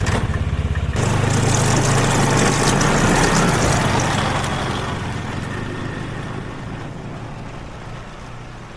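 A snowmobile engine kicks into a loud, rough roar after a brief moment, revving hard and steady before gradually fading as it speeds away over snow.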